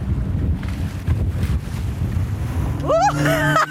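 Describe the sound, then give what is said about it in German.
A motorboat is driven fast to test its power, its deep rumble mixed with rushing, splashing water spraying up and heavy wind buffeting the microphone; near the end the engine's whine climbs sharply in pitch as it accelerates. “Mich interessiert jetzt natürlich auch noch, wie viel Pfupf so ein Tomaboot hat. Wir könnten jetzt etwas schnell fahren.”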